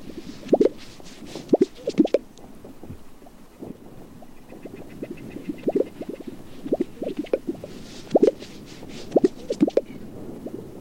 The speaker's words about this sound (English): So a fantastic sound. That's the Gunnison sage grouse? It is, yeah.